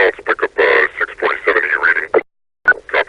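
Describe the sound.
Garbled, unintelligible Combine police radio chatter from a video game, sounding like a SWAT team: clipped, band-limited voice bursts in rapid choppy phrases, a brief silent gap, then more crackly transmissions resuming.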